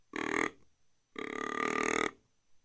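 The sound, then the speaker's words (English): Two deep, raspy buck grunts from a deer grunt call with its tube pulled out about an inch to sound like an older buck: a short one followed by a longer drawn-out grunt, loud and buzzy with no talking over them. “But by pulling on the tube, maybe just an inch, now I'm an older deer.”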